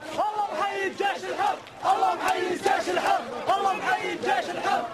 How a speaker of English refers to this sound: A team of about 60 observers arrived in the city of Homs yesterday. In an unverified YouTube video, crowds in that city chanted, quote, "God salute the free army."